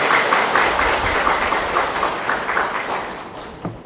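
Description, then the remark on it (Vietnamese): A crowd at a Buddhist gathering in Vietnam claps steadily for several seconds to welcome Venerable Thích Phúc Tiến, a dense, even patter of many hands that eases off slightly toward the end. No one speaks over it. “Xin toàn thể đại chúng trong một tràng pháo tay.”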